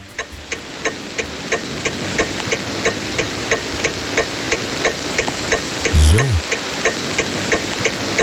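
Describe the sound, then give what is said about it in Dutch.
A car turn signal ticks in a fast, steady rhythm, each sharp click evenly spaced over a constant low rumble, with a brief low thud partway through. “We moeten een aantal dingetjes weten voordat we naar je knipperlicht toe gaan.”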